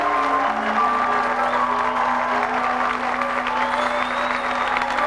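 Steady, continuous applause from a sizable audience fills the whole stretch, a dense wash of clapping at even loudness, with a faint sustained tone humming underneath.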